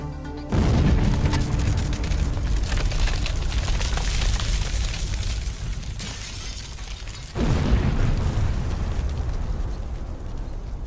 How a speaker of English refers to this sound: Many survivors suffered severe injuries. The explosion leveled buildings and turned the ships that stored the explosives into scraps of metal. 337 people, including 202 black sailors, lost their lives that day.